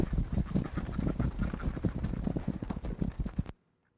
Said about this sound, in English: A bunch of ducks and no geese around to hiss at us at all.